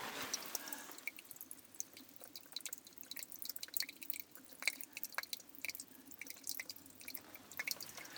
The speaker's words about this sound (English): And there's just a barest of cracks about 2 or 3 inches wide where it's coming through. And there's water dripping here. That's what you're hearing. Let me get the phone closer.